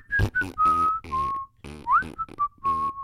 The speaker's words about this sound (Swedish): Apropå att ni inte kan vissla.